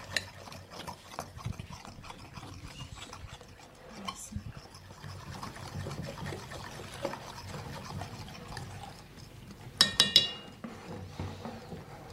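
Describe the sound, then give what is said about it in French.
A pancake cooks in a heated frying pan with a soft, steady sizzle and faint crackling. A couple of sharper clinks and clatters stand out near the end. “Simplement le temps qu'il faut pour chauffer votre poêle. Alors lorsque les bulles apparaissent et éclatent, retournez donc le pancake.”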